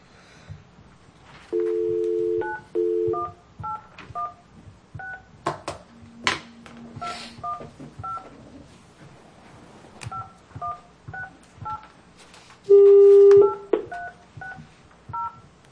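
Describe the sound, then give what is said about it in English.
A telephone keypad being dialed to call a Kansas City number: a long run of short, crisp two-pitch beeps in an uneven rhythm, with a few longer, louder steady tones among them and no talking. “Yeah, so you just have to call that Kansas City number.”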